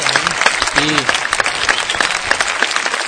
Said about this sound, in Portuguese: O prêmio dado é o do o Cecil B. DeMille Award, dado pro Steven Spielberg. Não só dado pelo Steven Spielberg, mas dado do Martin Scorsese pro Steven Spielberg. Palmas, Steven Spielberg aí.